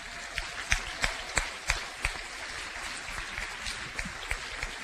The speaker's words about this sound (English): If you don't mind, folks, for their passion, for their country to be willing to serve these candidates on stage right now, a huge round of applause.